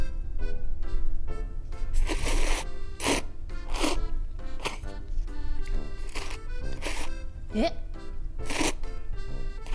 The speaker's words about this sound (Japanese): 何をなさってるんですか？ うどん食べてるねん。 ダメでしょ、ここ夜行バスですよ。